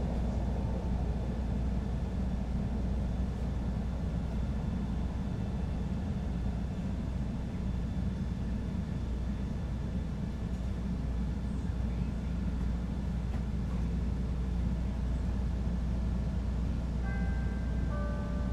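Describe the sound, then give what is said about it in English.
A Red Line rapid transit train to Howard rumbles along steadily, heard from inside the car: a loud, continuous low roar with faint high whines, and a brief rising tone near the end. “This is a red line train to Howard.”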